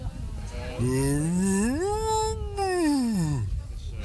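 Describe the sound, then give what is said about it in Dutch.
A neighbour who sees the cows every day imitates a cow's moo: one long, sustained voiced call that rises from a low pitch, holds, then slides back down, fairly loud, about three seconds long, with no talking. “ik hoorde net ook dat u heel goed een koe na kunt doen.”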